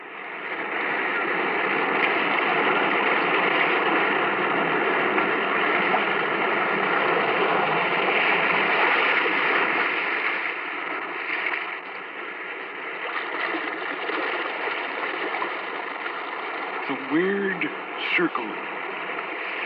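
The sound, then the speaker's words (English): Restless sea waves surge in a steady, loud, rushing wash that eases slightly partway through, with a brief wavering tone rising near the end; no one speaks. “Restless sea, we are met to call from out of the past stories strange and weird.”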